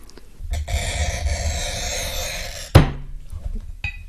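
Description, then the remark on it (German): A steady, scratchy screech of a glass cutter scoring a glass pane, with the cutter standing to press down harder, runs for about two seconds, ending in a sharp click, with no talking over it. “Ich muss mich mal dazu hinstellen, weil dann hat man den besseren Druck beim Schneiden.”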